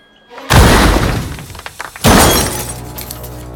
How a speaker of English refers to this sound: The plane skims across a creek, bumps along, and lands in a clearing. It falls to pieces.